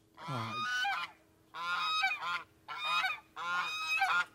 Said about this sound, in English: Geese. There you go. Geese.